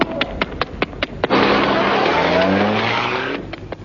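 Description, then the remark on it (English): A rapid series of sharp clicks, then a car engine roars to life and revs upward as the vehicle speeds away with a screech of tires, loud before easing off. “Captain, get in your car and follow me.”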